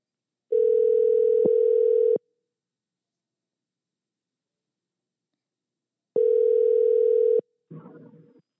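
A telephone tone sounds in two long, steady buzzing rings separated by several seconds of silence, loud and alone, followed by a brief faint rustle as the line picks up, while a call is placed to a show guest in Texas.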